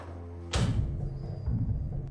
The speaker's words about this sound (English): Saltzman closes the locker.